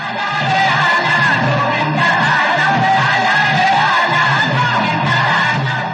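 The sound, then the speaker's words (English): A large crowd at the Dahi Handi festival in Mumbai cheers loudly for the Govindas without pause, many voices yelling, whooping and shouting together in a dense roar, with a rhythmic low beat of music pulsing underneath. “The festivities, which will continue until midnight, are accompanied by rhythmic music and large crowds cheering for the Govindas.”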